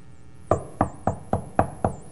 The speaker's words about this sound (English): He's knocking on your heart's door right now. Do you hear that knock? It's the voice of Jesus.